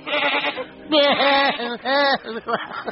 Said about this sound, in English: Oh, look, a goat.